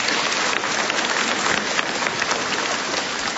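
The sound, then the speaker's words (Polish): A crowd applauds steadily, a dense wash of many hands clapping at once, loud and sustained with no pauses and no talking over it, welcoming the group from Dąbrowica, parish of St. Maximilian Maria Kolbe. “Brawa dla nich.”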